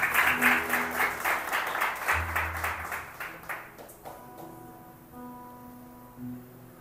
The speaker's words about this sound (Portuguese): Se é para Deus, aplaude direito.